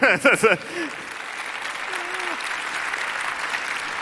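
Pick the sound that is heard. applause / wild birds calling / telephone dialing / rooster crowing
applause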